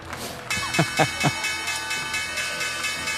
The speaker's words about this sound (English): Guys, there's the opening bell.